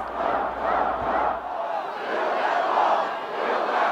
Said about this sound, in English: Plenty of chants.